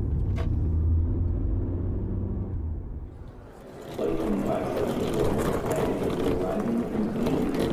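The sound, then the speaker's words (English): A car drives along with a steady, deep engine rumble; midway the tone drops away and a louder, broad rushing noise takes over for the rest. “Perfect weather for driving. Just drive.”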